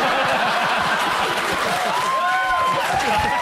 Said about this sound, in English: I don't know if that cheer is the right kind of cheer, by the way. That made me uncomfortable. You get the laugh, but you're like, you can keep it. I don't know if I like that laugh.